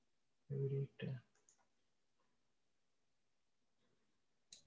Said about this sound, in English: I think if you use, you know, arrow keys to move on the slides instead of clicking. Probably that's better.